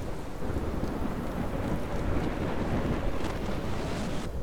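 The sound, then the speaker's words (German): A steady roar of heavy rain pours down without pause, dense, with a low rumble underneath that could be thunder or wind. No voices are heard. “Eines Tages kam ein starker Regen und ließ den Fluss gefährlich anschwellen.”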